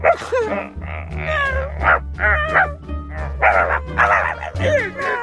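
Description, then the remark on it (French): Voices imitate animal cries while hiding behind curtains, mostly dog-like barks, yips and whines, in a rapid series of loud, pitch-swooping bursts over a steady low hum. “Faire des cris d'animaux en se cachant derrière les rideaux.”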